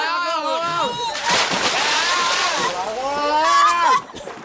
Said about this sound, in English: He's jumped off the boat. Quick, no, get him out.